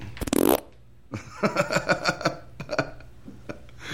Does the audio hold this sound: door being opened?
no